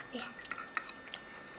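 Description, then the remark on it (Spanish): Quiet chewing with a few soft, irregular mouth clicks and smacks spread over a moment, against faint background hiss and no talking. “Sí, masticas muy bien.”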